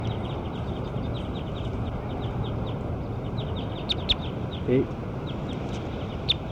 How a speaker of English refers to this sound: Bird 6. Those are the calls of bird 6.